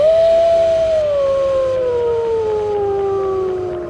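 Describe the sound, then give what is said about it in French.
Wolves howling together: one long, loud, sustained howl slowly slides downward in pitch while fainter voices hold beneath it, with no talking. “Les voix alternaient, montant et descendant en une polyphonie sauvage et pourtant musicale.”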